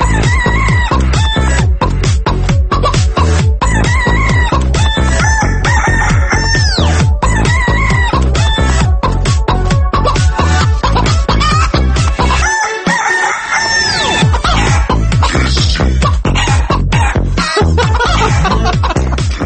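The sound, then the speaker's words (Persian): Hens cluck loudly and steadily as they lay eggs, over a driving, regular beat, with a brief dip about two-thirds through. The clucks come fast and rhythmic, almost musical, with no talking. “دارن تخم میذارن، خسته نباشین خانم مرغه.”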